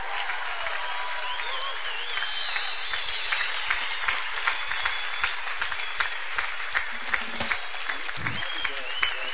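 Sustained applause from a large audience in a church in Slovenia, greeting the main celebrant and preacher of the Mass, Maribor auxiliary bishop Peter Štumpf: a dense steady wash of clapping with scattered sharper claps standing out, holding at an even loudness throughout without any speech.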